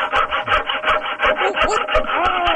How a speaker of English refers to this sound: What is that? I was trying to saw my way out of the window, and I cut off my paw with a handsaw.